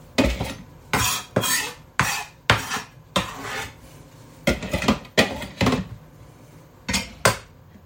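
Dishes and a bowl clatter repeatedly while cooking, in an irregular series of sharp knocks and clinks, with brief pauses between bursts and no talking.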